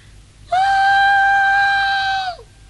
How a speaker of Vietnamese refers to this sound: Con hú được chưa ba? Thì ba đồng ý rồi thì mày được quyền hú.